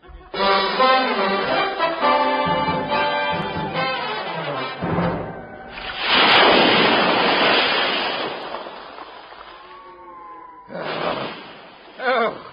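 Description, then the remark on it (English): Loud, whistling gusts of wind of at least 40 knots howl at first, then heavy waves surge and crash in a long roaring wash, followed by another burst of surf as the storm continues. “Oh, the wind must be 40 knots at least.”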